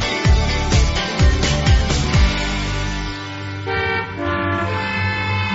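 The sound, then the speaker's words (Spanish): Several car horns honk in congested city traffic, short overlapping toots in the first few seconds giving way to longer sustained blasts, fairly loud, with engine rumble underneath and no one speaking. “Hoy nos encontramos con un tráfico bastante trabado en muchas zonas, especialmente en el centro.”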